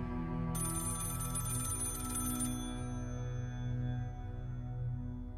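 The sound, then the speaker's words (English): An old-style telephone bell rings once for about two seconds, loud, its metallic jangle then cutting off over a low steady hum; a woman's phone ringing on Sunday 12 July, just before 1 p.m. “Sunday the 12th of July, just before 1 p.m, her phone rang.”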